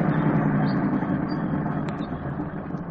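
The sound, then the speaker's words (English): A long truck's heavy engine idles on a narrow road where a board blocks the way, a steady, low rumble that holds at an even level for the whole stretch, without any voices. “We can't turn around on this narrow road with this long truck.”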